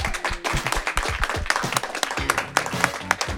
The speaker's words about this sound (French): On peut les applaudir.